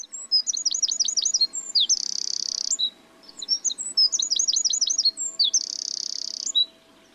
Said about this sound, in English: You could also find wrens, one of the smallest birds in Britain, but also one of the loudest. And so you can hear them have a really repetitive trill song, and you can hear them right the way along.